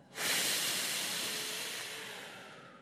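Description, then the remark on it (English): A single long, airy breath, starting abruptly and holding steady for a few seconds before slowly tapering off, with no voices; part of a slow deep breathing exercise counting four in and six out. “So everybody do it with me. We're going to count four in and six out.”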